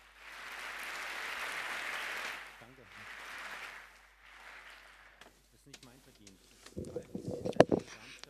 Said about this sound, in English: So the applause doesn't belong to me really, but the Freifunk initiative altogether.